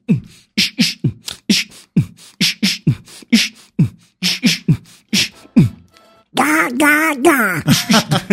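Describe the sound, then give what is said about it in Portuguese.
A voice imitates the engine of Donald's old jalopy: a fast, loud run of sputtering puffs, like a motor chugging, then a sustained buzzy tone that rises and falls in pitch like revving. “E aí ainda faço o som do carro.”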